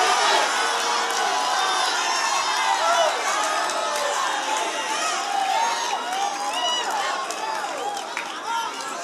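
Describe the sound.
A church audience shouting and cheering in praise of God all at once, a dense, sustained roar of many voices with whoops and cries rising over it, loud and continuous throughout.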